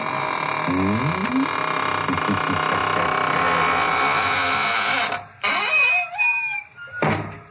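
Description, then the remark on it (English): A squeaking door swings slowly shut, its loud, drawn-out creaks sliding up and down in pitch over a steady, buzzing hum, with a few sharper squeals near the end. “And now it's time to close the squeaking door, so good night.”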